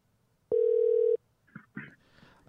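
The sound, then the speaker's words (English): A loud, steady telephone dial tone sounds for just over half a second, followed by a few short, clipped beeps and clicks as a number is dialed to call back a man who was hung up on. “Let's call the man back and let him finish his statement here.”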